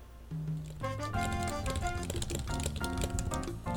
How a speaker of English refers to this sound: Eager to read his response, she nibbled on a strawberry as soon as she finished typing and hit send.